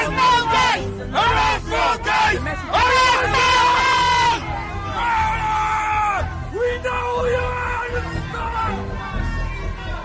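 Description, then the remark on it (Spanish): A large crowd of protesters in England shouts a rhythmic chant in unison calling for Bill Gates to be arrested during his visit, loud, with repeated bursts of yelling voices rising and falling over a constant background of crowd noise. “Arrestar a Gates, de gritan.”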